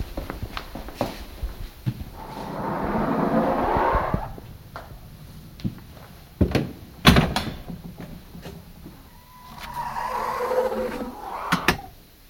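The heavy door of an anechoic test room swings and thuds shut with a loud, deep impact near the middle, surrounded by scraping, handle clicks and shuffling footsteps.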